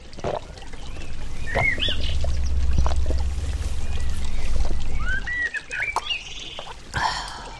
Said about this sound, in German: Hier an dieser frischen Quelle gibt es richtig frisches Wasser. Trink nur, das wird dir gut tun.